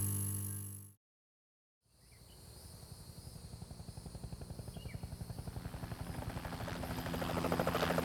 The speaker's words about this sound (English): It was just after 6 p.m. when the hijacked helicopter crested the tree line outside Marion Penitentiary.